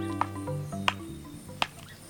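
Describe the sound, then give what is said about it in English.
A northern flicker, a woodpecker, clinging halfway up an old dead tree and using its bill to chip out a round 3-inch entrance hole for a nest cavity: three sharp, dry knocks spaced about two-thirds of a second apart, over a steady low hum and faint background buzz, with no voices. “A woodpecker, a northern flicker, is carving out a nest cavity.”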